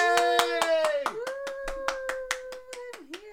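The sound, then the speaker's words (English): Steady, rhythmic applause, roughly fifteen sharp hand claps in quick succession, with a sustained, wavering cheer from a voice running over them throughout. “Oh, she's applauding.”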